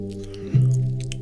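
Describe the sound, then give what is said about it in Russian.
Wet, squishy gum-chewing sounds close to the microphone, smacking softly in an irregular rhythm over a steady low humming tone that swells partway through. “Стоит у микрофона и жует жвачку.”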